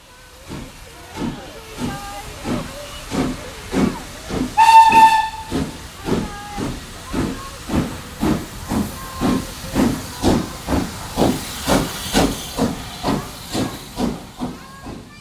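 A steam locomotive chugs steadily, its hissing puffs coming in a rapid, even rhythm, with a short, shrill whistle blast early on; the engine sounds moderately loud. It is the train from Paris to Auvers, a village along the river Oise.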